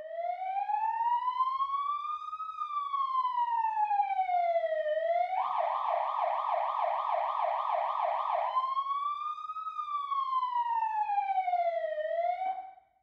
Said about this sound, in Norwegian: En ambulanse det samme som en sykebil. Og sånn høres en ambulanse ut.